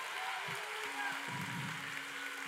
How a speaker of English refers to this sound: If you're a believer, clap your hands and open up your mouth and make some noise in this room.